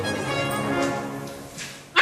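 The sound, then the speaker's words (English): A giant panda calls with a drawn-out, nasal bleating whine rich in harmonics for about two seconds, then ends in a sudden loud breathy burst, much like a goat sneezing. “If you answered a distant goat sneezing, yeah, you win a car.”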